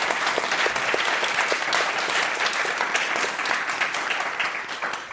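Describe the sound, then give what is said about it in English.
An audience claps steadily for panelists for about five seconds, a dense, even wash of many hands with no voices over it, fading slightly at the end. “I mean, I think it's early, but please, a round of applause for our amazing panelists.”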